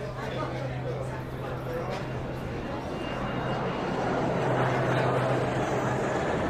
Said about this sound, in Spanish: Los aviones que siguen pasando. Una panorámica del aeropuerto de Sauce Viejo, imaginariamente.